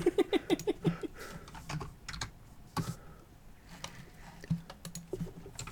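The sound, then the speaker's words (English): Rapid clacking keystrokes on a mechanical keyboard, fairly loud, in irregular bursts with brief pauses between runs of typing. “Yeah, I'll get to hear my deafening keyboard, which I'm definitely going to edit out or have edited out because mechanical keyboards is not a good look for a podcast.”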